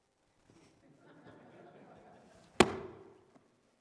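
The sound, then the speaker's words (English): A single loud, sharp whip crack snaps out after a few seconds of low murmuring, its ring fading quickly with a faint tick just after. “What do you think, Paul? Would you like to get hit by that?”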